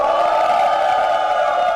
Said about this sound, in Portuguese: E a gente começa já com vaia.